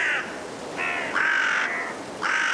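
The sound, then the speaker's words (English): Five carrion crows give harsh, repeated caws, several overlapping calls in quick succession, loud, over a steady rushing blustery wind in a cold woodland at dusk in Woodchester Park, Gloucestershire, England. “Five carrion crows calling through the blustery winds in Woodchester Park in Gloucestershire, England.”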